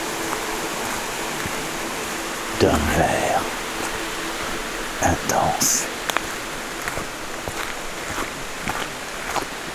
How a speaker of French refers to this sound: Beaucoup de brume et d'humidité dans cette forêt domaniale de Mikou. Tout autour de vous, l'eau s'écoule de partout. Petite cascade, source.